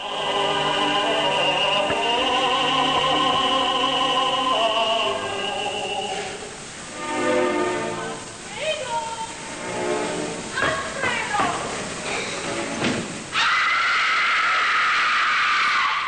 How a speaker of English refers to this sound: In one, a performance is interrupted by a loud scream, believed to be the work of an actor paid by a fan who didn't like the tenor.